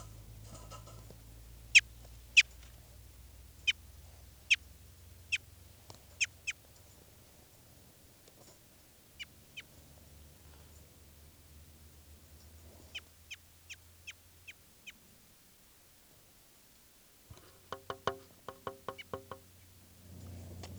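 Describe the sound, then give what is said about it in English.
A captive crossbill, bird 399, gives sharp, high chip calls in irregular bursts, some single and some in quick clusters, while being handled, over a low rumbling background of handling noise. “And now I'm going to be handling bird 399.”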